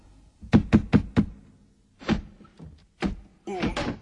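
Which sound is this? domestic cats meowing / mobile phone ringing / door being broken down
door being broken down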